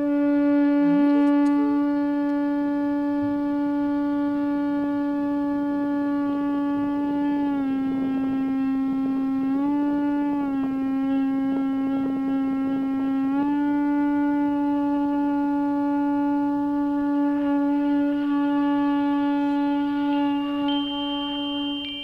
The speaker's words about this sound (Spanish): Son caracolas marinas que junto al cuerno de algunos animales fueron de los primeros instrumentos de viento